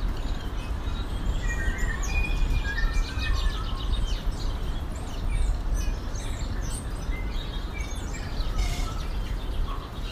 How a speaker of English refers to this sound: wonderful sounds of birds in the rain with the sea in the background